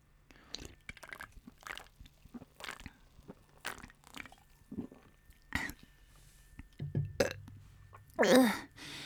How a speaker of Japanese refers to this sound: 持ってきたよ、おつまみとビール。じゃあ早速ビール開けますよ。はい。また飲んじゃう。乾杯。